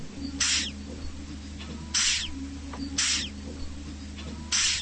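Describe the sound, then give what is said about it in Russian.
Giant hissing cockroaches, kept as living exhibits, give four short, breathy hisses, each about half a second, spaced irregularly over a low steady hum. The hisses are fairly loud, with no talking. “Именно с этой целью ученый пополнил коллекцию из тысячи неживых экспонатов живыми – жуками, пауками, скорпионами и огромными тараканами, шипящими, как кошки.”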